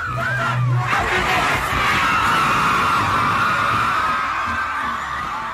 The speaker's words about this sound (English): Just a week later, Vlad posted a video on Facebook that somebody had recorded of a whole crowd of kids in Haiti singing his line.